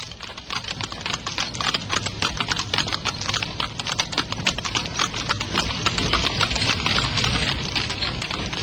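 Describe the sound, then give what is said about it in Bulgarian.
Steady, rapid hoofbeats clatter for several seconds, a horse clip-clopping along at a brisk pace with a dense, even rhythm and no talking. “Изморихте коня.”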